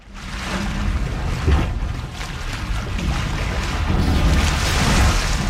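Steady ocean waves by the sea wash and rumble against a constant backdrop of wind, with low surging swells rising and falling. No one speaks.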